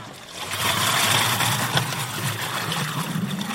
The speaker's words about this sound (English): Women in saris are clutching brightly coloured plastic pots as they frantically fill them up with water. It's a scramble as people jostle and shove to get their hands on one of the two hoses connected to the lorry.